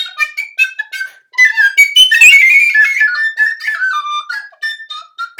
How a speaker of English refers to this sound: Yeah, that's true, and it's impossible to be too bad when there's a penny whistle around.